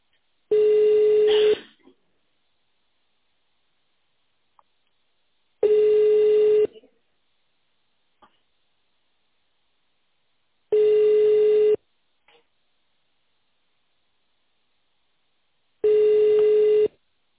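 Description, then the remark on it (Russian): A telephone ringback tone while a call is transferred to a secretary: four steady, buzzy one-second tones spaced about five seconds apart, clear, with silence between them and no voices. “Звонок переводится на секретаря.”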